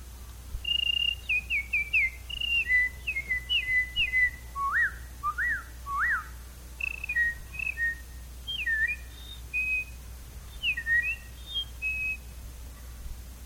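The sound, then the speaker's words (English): A person whistles a string of quick, chirpy imitations of small bird calls, short trills and sliding up-and-down notes in steady bursts, clear against a faint low hum. “Start out and do a few little birds for you.”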